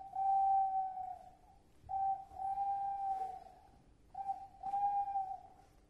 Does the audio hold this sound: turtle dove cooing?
yes